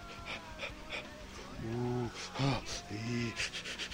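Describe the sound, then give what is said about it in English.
A voice mimics the heavy panting of people having sex: a run of quick, breathy gasps, several of them voiced and moan-like, repeating in an uneven rhythm, fairly loud. “Not really, though, because if you're fucking, you might be breathing heavier than than normally.”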